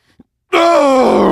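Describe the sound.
A human voice imitates a grunting, puffing groan: after a brief near-silent pause, one loud, sustained, breathy moan slides steadily downward in pitch and carries on to the end.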